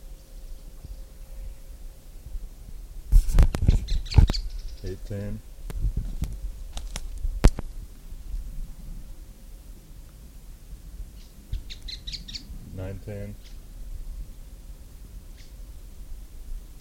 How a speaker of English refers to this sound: Birds.